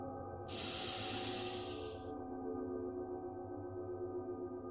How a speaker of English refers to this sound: Let's take a few deep breaths together. Breathing in. Breathing out. Breathing in a little deeper.